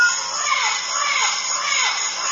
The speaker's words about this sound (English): a parrot interrupts him, and he's very polite, and he stops singing right in the middle of his theme